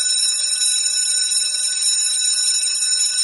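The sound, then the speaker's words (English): An electric school class bell rings continuously with a loud, metallic, buzzing jangle that holds steady from start to finish, with no voices over it. “And with the class bell, that brings this episode of Inspiring Educators to the end.”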